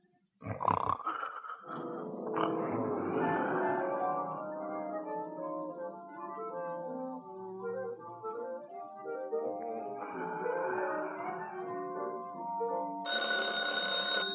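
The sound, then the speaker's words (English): A telephone bell rings loudly near the end, its bright metallic tone cutting in after a long stretch of loud, rumbling, roar-like tonal sound. “Oh, phone”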